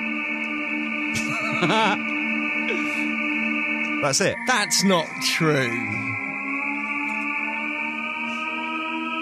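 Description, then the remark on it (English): A Japanese hybrid car's artificial pedestrian warning noise, chosen by the owner so the car can be heard coming: a steady, layered electronic hum of sustained tones, with pitch briefly sliding and warbling midway, while people talk over it. “This is the noise that someone has decided to have on their car so you can hear it coming.”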